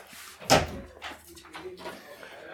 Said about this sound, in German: Machen wir die Tür zu, auch? Die machen wir wieder zu, aber also.